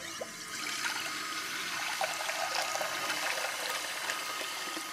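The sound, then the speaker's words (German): Cold water pours steadily from a tap in a continuous rushing hiss that holds an even level for the whole stretch, with no voices. “Um die Wut loszuwerden, hilft zum Beispiel auch kaltes Wasser.”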